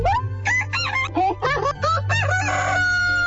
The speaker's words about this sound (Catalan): Perquè sortís bé la missió d'alliberar el pollastre 532, havien de millorar el robot connectant-li un microxip per cable programat perquè cada matinada cantés com un autèntic pota blava.